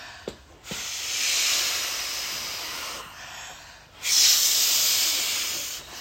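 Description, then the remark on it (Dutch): Long, steady breathy blows of air into a balloon to inflate it, with a brief pause between two sustained hissing exhalations; moderately loud, no talking. “Ballonnetje, ballonnetje, ik blaas je op. Gaan we allemaal opblazen, ballonnetje?”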